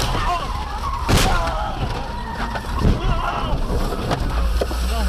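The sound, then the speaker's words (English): A head-on car crash as a Dodge Ram pickup going the wrong way on I-215 slams into a car: a sharp, loud impact about a second in, amid heavy road and wind rumble, followed by the male driver screaming and shouting. “Now, you heard him screaming there, and I want to assure you he was just fine.”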